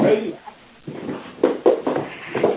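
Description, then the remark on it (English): Several short, sharp barks from dogs in Bath come in a loose cluster through a thin, muffled phone line on a conference call, preceded by a murky stretch of background noise. “Can whoever has the dogs please mute their line?”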